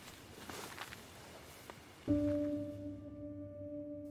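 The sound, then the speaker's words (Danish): Soft, scattered crackling and brushing as an unseen dog explores a thicket beside a very dark path lined with spruce trees on Anholt, for about two seconds, then a steady, droning low hum abruptly starts and continues to the end. “Hunden går på opdagelse i krattet. Vi kan ikke se den, men vi kan høre den.”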